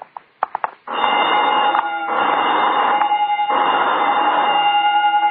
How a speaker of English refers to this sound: What's that? Oh, just testing the burglar alarm, I guess.